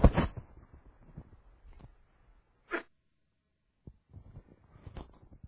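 A loud, close-up cough bursts out at the start, followed by low rustling, a brief breathy puff a few seconds later, and faint shuffling near the end.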